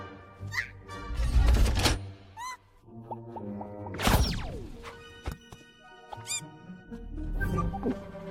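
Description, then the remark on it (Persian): A loud shotgun blast during trap shooting practice rings out midway with a sharp report and a decaying tail, followed by a couple of quicker cracks. Squeaky chirping sounds and rumbling noise surround them, with no talking. “ترجیح میدم در حین تمرین تیراندازی مذاکره کنیم. بکش.”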